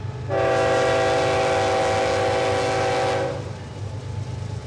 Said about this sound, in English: Today, coal trains run right alongside the farm 3 to 4 times per day, a striking reminder of the state's long history with extractive industries.